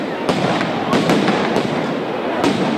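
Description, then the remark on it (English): Flashbang grenades used by police to push back crowds in Portland go off in a quick, irregular string of sharp, loud bangs, about five in under three seconds, over a steady wash of crowd noise and shouting. “Police used flashbang grenades to push back crowds in Portland.”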